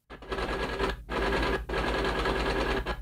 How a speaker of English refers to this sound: Is that a typewriter?